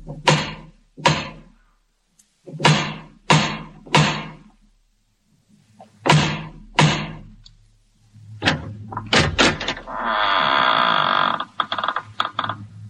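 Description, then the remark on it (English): Heavy, resonant knocks on the massive wooden door of a house come in separate groups with pauses between them, then the door creaks and groans loudly as it swings open. No one speaks. “strode across the gravel and up to the massive wooden portal, the door of the House of Usher”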